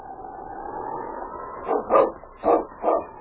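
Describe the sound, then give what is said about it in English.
A team of sled huskies barks in four quick, loud bursts, following a steady droning sound that fills the first half of the moment. It is Sergeant Preston's team of huskies, with the lead dog King setting the pace. “It was 2 days later when the mighty lead dog King set the pace for Sergeant Preston's team of huskies.”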